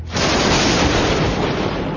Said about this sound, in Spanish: A las 12 y 20, un trueno causó un fuerte estruendo cuando el rayo golpeó el poste.